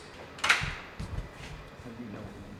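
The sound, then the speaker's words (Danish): A door is opened: a sharp latch click followed by a few low, hollow thuds as it swings, with a faint voice murmuring in the background. It is the door into a room kept at 3.9 degrees that holds pressure tanks simulating deep-sea pressure, at the Danish Center for Hadal Research. “Okay, så nu kommer vi ind igennem døren, og du peger på, at der er...”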